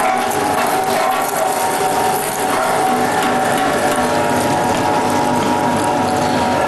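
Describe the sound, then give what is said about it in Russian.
A meat grinder churns through nuts with a steady, loud mechanical grinding and crunching that holds at an even level for several seconds, with no one talking. “В прошлый раз мы делали вручную, и орехи через мясорубку ручную очень плохо проходят.”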